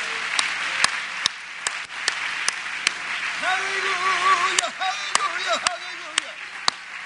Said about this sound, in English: Let's clap our hands for doctrine, shall we? Hallelujah.